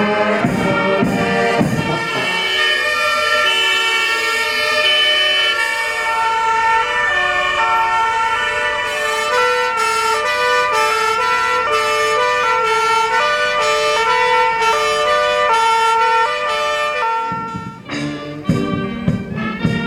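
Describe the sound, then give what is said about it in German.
Several fire engine sirens wail loudly and continuously together as fire brigade vehicles close a celebratory fire brigade parade through the municipality of Gutenbrunn, their overlapping rising and falling tones filling the scene, with the rumble of heavy vehicles underneath and no talking. “Allem voran marschierte die Blaskapelle der Freiwilligen Feuerwehr aus Nadlak, danach die 30 Feuerwehrgruppen und zum Schluss die Einsatztechnik im lauten Geheul der Sirenen.”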